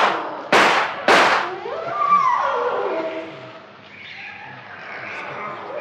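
Two loud, sharp gunshots fired at an elephant that is dragging a boat by its anchor toward a forest ring out about half a second apart, followed by a wavering, whining animal cry that rises and falls before fading into a low rumbling background.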